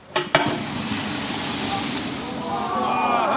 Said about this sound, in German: was passiert, wenn eine brennende Fritteuse mit Wasser will gelöscht werden